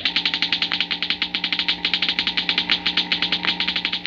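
A model atom smasher, presented as the sound of atomic energy, crackles in a fast, steady stream of sharp buzzing pulses, about ten per second, over a constant low electrical hum, with no voices.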